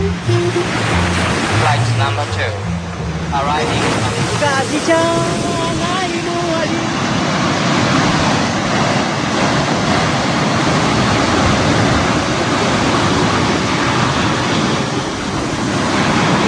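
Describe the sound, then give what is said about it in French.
Waves wash steadily onto a beach in Mayotte, lined with old outrigger fishing boats carved from tree trunks and shaded by a baobab and a few palm trees, in a loud, continuous roar of surf, with faint voices briefly audible in the first few seconds. “On est sur cette plage avec ces bateaux de pêche à balancier là, qui sont des bateaux creusés dans les troncs d'arbres, hein, des vieux bateaux rafistolés.”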